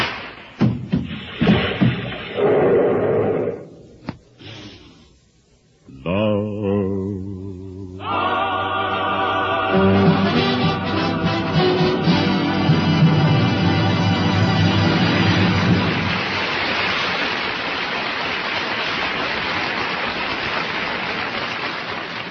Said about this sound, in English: that applause should tell you what a hit you've written. It was wonderful, darling.